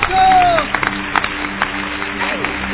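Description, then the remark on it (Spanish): An audience claps together in a dense, steady wash of applause, with a few sharper claps standing out and a voice and sustained tones sounding underneath. “Le das un aplauso, pero poderoso.”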